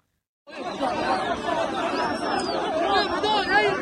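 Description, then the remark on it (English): Dense crowd chatter swells in after a brief silence as a crowd in Khan Yunis, Gaza, surges around two Israeli hostages being released. Many overlapping voices form a loud, steady roar, with occasional shouts and whistling rising above the din. “2 Israeli hostages bundled through the surging crowd.”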